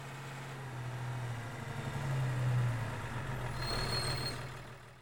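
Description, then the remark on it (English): A heavy truck engine rumbles steadily as the truck arrives bringing a load of someone's things, its low drone swelling in the middle before a high hiss of air brakes near the end. “She's in luck. There's the truck.”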